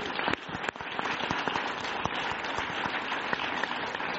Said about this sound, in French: Une bonne main d'applaudissement.